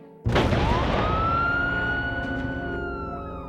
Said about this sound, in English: I heard the sound of the ambulance stopping nearby.